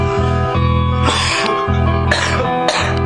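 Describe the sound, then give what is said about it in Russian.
A series of harsh, raspy coughs in about three bursts, loud, over a steady droning musical backing with no talking. “Я кашляю часто, прямо даже до слез.”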